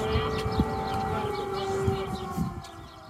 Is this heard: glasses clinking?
no